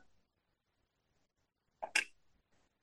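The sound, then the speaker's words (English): A single quick sip of a drink, a short slurp, surrounded by near silence with a faint soft sound just afterward. “I'm going to take a sip.”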